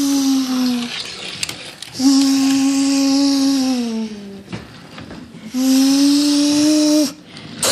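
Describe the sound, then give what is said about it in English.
A two-year-old child's voice imitates a car engine with three long, buzzing vroom sounds, each a steady mid-pitched hum with breathy noise, the middle one sliding gently lower before fading. “Sounded like a 10-cylinder.”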